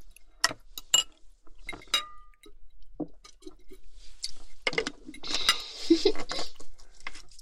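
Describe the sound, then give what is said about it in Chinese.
Glasses of lemonade, drunk instead of alcohol, clink together in a toast, a few bright ringing taps, followed by soft clatter of dishes and cutlery amid busy background noise. “不喝酒的话就干柠檬水吧，干杯。”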